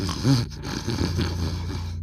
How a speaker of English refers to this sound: I haven't slept a wink. That guy snores.